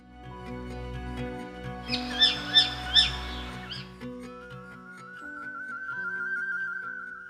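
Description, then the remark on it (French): Three shrill, rasping parakeet squawks burst out in quick succession, loud, over a low steady background drone, followed by a thin sustained whistling tone. “C'est un oiseau à la tête ronde, aux ailes fines et à la queue effilée.”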